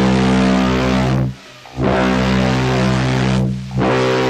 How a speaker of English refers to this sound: I have an air horn I used to use at the Bullets games.